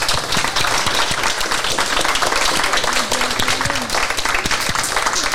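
A crowd applauds steadily for several seconds at the end of a news programme, a dense, sustained wash of many hands clapping at constant loudness, with a faint murmur of voices beneath it.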